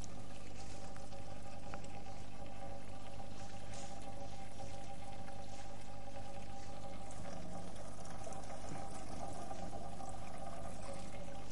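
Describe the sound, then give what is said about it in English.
In a thermodynamics experiment, water boils again under reduced pressure as it cools and the pressure inside drops, with a steady, rushing bubbling and fizzing hiss that holds evenly throughout, with no voices. “So the boiling continues in principle.”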